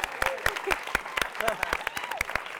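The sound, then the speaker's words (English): An audience breaks into applause, a dense, irregular patter of sharp claps at moderate volume, with a few brief voices and cheers rising over it. “Guys, give her a round of applause.”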